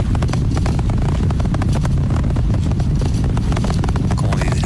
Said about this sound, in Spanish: Eso es lo que uno escucha, ¿no? Y los motores están aumentando su fuerza de nuevo para continuar el ascenso hacia el espacio.